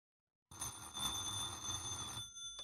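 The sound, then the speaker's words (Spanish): An old-style telephone bell rings continuously with a bright metallic trill, starting abruptly after a short silence and sounding fairly loud. “¿Quién contesta el teléfono? María contesta el teléfono.”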